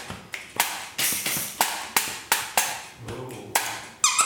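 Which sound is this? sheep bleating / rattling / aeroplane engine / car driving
rattling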